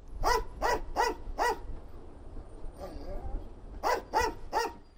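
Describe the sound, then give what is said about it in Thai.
Asha, a female English Springer Spaniel sniffer dog at Jomo Kenyatta International Airport in Kenya who sniffs passengers' luggage for smuggled ivory, barks loudly in two quick bursts, four sharp barks, a short lull with faint background noise, then three more in a steady rhythm. “อาชาคือสุนัขเพศเมียพันธุ์ English Springer Spanielที่ประจำอยู่ที่สนามบินนานาชาติโจโมเคนยัตตาในเคนยานะครับงานของอาชาคือตระเวนดมกลิ่นตามกระเป๋าสัมภาระผู้โดยสารเพื่อหางาช้างเถื่อนที่ถูกลอบนำไปใส่ไว้ในกระเป๋าเหล่านั้น”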